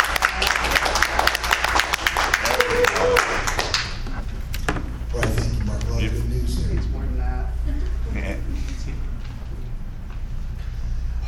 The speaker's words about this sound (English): Let's do a specific round of applause for Michelle Brown.